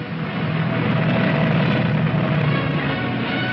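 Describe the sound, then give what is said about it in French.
A continuous, loud roar of aircraft engines, steady and dense with a low droning hum, like propeller planes revving up for takeoff. No voices. Modern German bomber aircraft, built for level and dive bombing, are about to take off for an attack on London. “le plus moderne avion de bombardement en vol horizontal et en vol en piqué, s'apprête à décoller”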